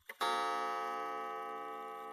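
A clock in a living room strikes once, a bright metallic chime that rings out and lingers with a long, slowly fading tone, clear with nothing else around it.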